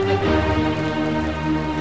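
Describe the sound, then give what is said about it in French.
A steady patter of light rain falls throughout, a soft continuous hiss with no voices and no clear pauses. “Une journée sombre, sous une fine pluie.”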